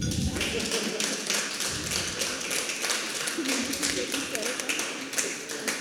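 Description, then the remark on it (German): Audience applause at a University of Konstanz event for a student-organised project week: many hands clapping in a dense, steady patter that stays fairly loud and even throughout, with sharp percussive claps blending into a continuous crackle. “Sie dürfen auch mal klatschen.”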